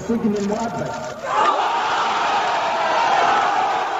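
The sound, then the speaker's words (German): A crowd of several hundred onlookers outside a police academy on the outskirts of Cairo, Egypt, bursts into loud cheering and shouting at a verdict of life imprisonment for the former president, after a brief moment of talk, the roar swelling and holding steady, dense for several seconds. “Die Menschen brechen in Jubel aus.”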